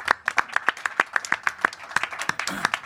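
Brief applause from a small group, with crisp, separate claps that come in a quick, uneven patter and stay at a moderate level for a few seconds.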